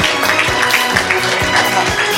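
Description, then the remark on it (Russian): A crowd applauds loudly and steadily during an announcement of participants' scores and places, a dense wash of clapping with a regular thumping beat running through it, roughly three beats per second, and no one speaking. “Ну и дальше еще громче аплодисменты.”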